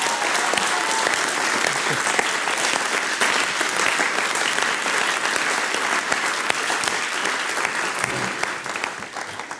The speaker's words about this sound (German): Du hast da einen Applaus verdient. Steh mal auf, bitte sehr.